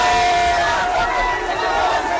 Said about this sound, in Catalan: L'assalt i saqueig del Palau Residencial de la fins avui primera ministra. Una multitud eufòrica ha entrat al complex i s'ha endut de tot sense cap mena de resistència.